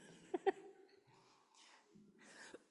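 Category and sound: human body sound, cough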